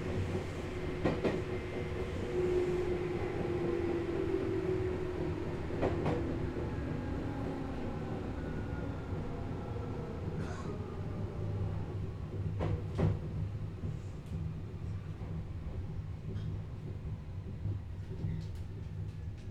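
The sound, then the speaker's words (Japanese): A train rolls into Usami station, heard from on board: a steady low rumble with scattered wheel clacks and a thin squeal of brakes early on, continuing without voices. “まもなく宇佐美です。降り口は左側です。上り電車と行き違いをいたします。”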